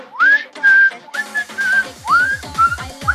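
whistled melody

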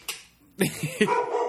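dog barking

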